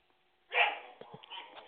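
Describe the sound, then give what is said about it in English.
The speaker's dogs in the background: one gives a sharp bark, then a few softer yips and whining noises trail off, quiet, with no one talking. “Yeah, you guys, my dogs are talking in the background, see?”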